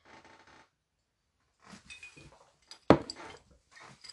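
glasses clinking

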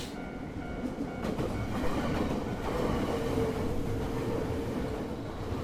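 train running on rails

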